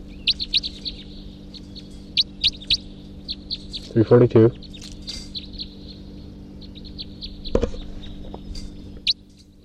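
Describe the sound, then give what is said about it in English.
A male bird, bird 342, calls repeatedly from his tree at 11:20 a.m. in short, high chirping bursts, with brief pauses between them, over a low steady hum and a few louder thumps. “It could just be that that male is calling now from his tree.”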